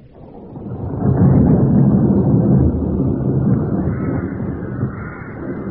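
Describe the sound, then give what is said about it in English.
A deep, rolling rumble of thunder swells after the first second and stays heavy and loud, with blustery wind roaring underneath and no voices. “What brings you out in the storm?”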